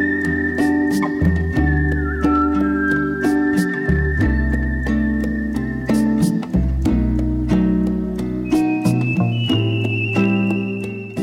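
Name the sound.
melodic whistling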